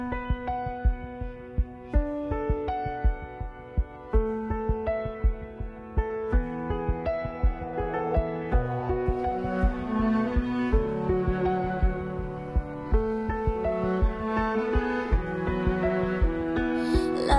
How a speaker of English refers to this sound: So here's a song from …, and this one's called ….